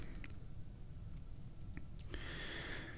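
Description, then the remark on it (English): A few soft wet clicks, then an airy slurping sip of fresh, still too-hot tea that lasts about a second. The whole clip is quiet, with no talking. “That was my first sip of tea of the day.”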